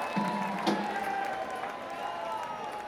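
Steady applause from a crowd, a dense wash of clapping that holds at an even level for a few seconds, with one sharper clap standing out near the start.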